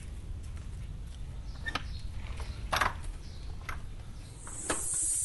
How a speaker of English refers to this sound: Let the pressure out of the hose.